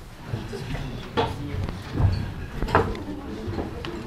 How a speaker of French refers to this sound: Donc on va faire un feu de camp virtuel, on va l'imaginer. On va donc déplacer les tables et se mettre en rond avec les chaises.